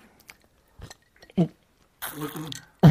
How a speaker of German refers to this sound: Oh, er spuckt Eiswürfel. Eiswürfel, ja.